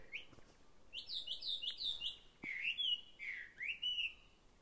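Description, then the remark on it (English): A songbird sitting on a branch sings a bright, whistled melody of rising and falling phrases with quick trills, clear, filling the few seconds with no talking. “That bird just sits on the branch, opens its heart, opens its little beak, and sings.”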